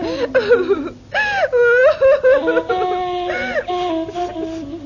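A mother sobs and wails, her voice rising and breaking in wavering, tearful cries, with shaky breaths and sniffles between the sobs.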